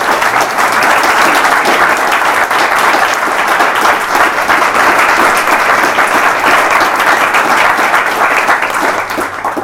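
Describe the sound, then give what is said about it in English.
A room full of people applauds John Perry steadily, dense overlapping claps forming a loud, continuous wash of sound that holds for nearly ten seconds before easing slightly at the end. “But I think before we do so, I think we should still give John Perry an applause for Kevin Wallace.”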